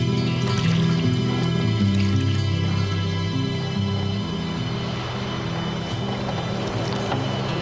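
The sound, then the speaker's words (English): The end of a wet line is hauled up out of the water by men on board a ship, with dripping and small splashes over a steady low rumble of a boat, continuous, no voices. “As blood spreads through the water, the end of the line is hauled in.”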